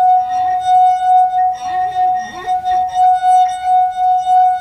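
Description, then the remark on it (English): A wet finger circling the rim of a wine glass holding water, played as a party trick, draws out a steady, pure singing tone that hums continuously, with faint background murmurs of voices underneath. “Okay, so this is one of those well-known party tricks where you play the wine glass”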